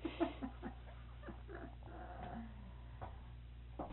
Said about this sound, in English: Now that it seems down here, we can't hear anything except, especially the dogs.